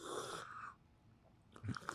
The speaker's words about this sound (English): I know this sounds crazy, but do yourself a favor. On your next sip, get some air with it. You know, do the...